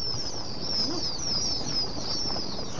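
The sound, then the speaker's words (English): A dense chorus of day-old pheasant chicks, about 140 packed into each of many stacked cardboard boxes in a warm, large room of an old barn at the McFarland Pheasant Farm in Janesville, Wisconsin, before dawn, peeping nonstop, their shrill, descending cheeps overlapping continuously above a steady rustling background, with no one talking. “About 140 day-old pheasant chicks are packed into each of the boxes here at the McFarland Pheasant Farm.”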